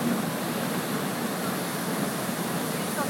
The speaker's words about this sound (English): He's turning the boat round now. Because we can't go any further, we're almost under the waterfall. Oh, that's so cool.